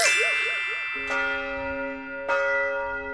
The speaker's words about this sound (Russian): Колокола звонят. На звоннице Троица Сергиевой Лавры, одного из самых древних монастырей России. Тут, кстати, царь-колокол есть. Самый большой звонящий колокол в стране. Он 70 тонн весит.